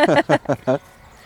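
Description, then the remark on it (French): Four loud, shrill squeals of piglets clamoring for food, waiting for their whey, burst out in quick succession, then give way to a quiet background. “Là, ils ont mangé déjà ce matin, mais comme le petit lait n'était pas encore arrivé, là, ils réclament un petit peu.”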